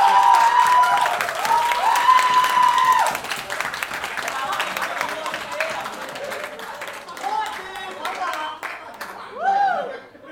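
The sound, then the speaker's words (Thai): A large stand-up comedy audience claps steadily for about ten seconds, with scattered whoops and chuckles riding over the dense applause, which gradually thins out toward the end. “ขอเสียงปรบมือแบบ1ล้านที่นั่งด้วย”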